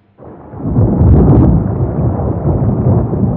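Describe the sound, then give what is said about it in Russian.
A deep, loud roll of thunder in a thunderstorm starts abruptly and swells into a sustained, rumbling growl that stays heavy for several seconds, with no voices. “К довершению несчастья началась гроза.”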